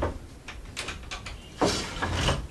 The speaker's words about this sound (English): In his backyard, he unlocks the door to a long bamboo shed filled with planks of balsa.